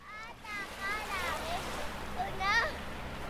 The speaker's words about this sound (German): In sanften Wellen schwappt das Nordpolarmeer an den Strand der Hauptstadt der größten Insel der Welt.